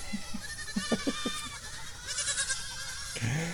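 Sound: goats bleating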